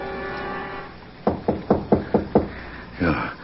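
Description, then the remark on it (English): Six sharp knocks on a door in a quick, even rhythm, following a low droning hum that fades out; a softer, duller thump comes shortly after. “Then I heard a totally unexpected sound.”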